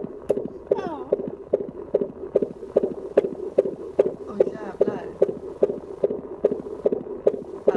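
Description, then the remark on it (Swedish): A fast, steady heartbeat comes through a monitor as rhythmic whooshing thumps, about two beats per second, loud over a constant muffled hum. “Det är jättenormalt. Och jättebra för att vara hjärtljud.”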